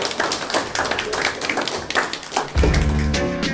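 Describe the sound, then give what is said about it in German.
A crowd applauds with steady, dense, loud clapping throughout; near the end a low, sustained tonal sound swells up beneath the clapping. “Einen Applaus, einen schönen Applaus.”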